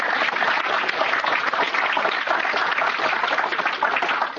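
A steady burst of audience applause, many hands clapping in a dense, even patter that holds at a fairly loud level throughout, with no voices over it.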